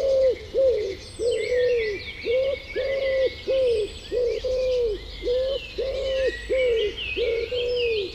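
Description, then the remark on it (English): A wood pigeon coos steadily, a soft, low, rhythmic phrase repeated over and over, while smaller birds chirp and twitter faintly in the background. “When Alfred Lord Tennyson wrote about the moan of doves in immemorial elms, he must have meant the wood pigeon.”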